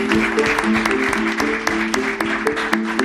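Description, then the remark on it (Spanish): An audience applauds the mayor steadily, a dense wash of clapping with sharp individual claps popping out now and then, holding at a fairly loud, even level for a few seconds. “Aplausos al alcalde, señores.”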